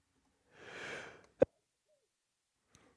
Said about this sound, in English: I just sneezed. That's the first time I've sneezed out loud since the lockdown, I think.